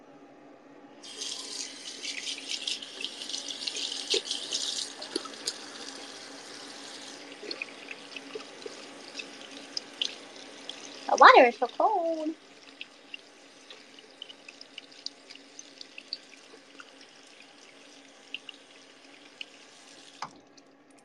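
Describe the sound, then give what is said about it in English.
Tap water runs steadily into a sink with splashing as a person washes their hands beneath it, loud, with a brief burst of louder splashing midway and a short spoken remark. “Okay, now you get to hear me wash my hands.”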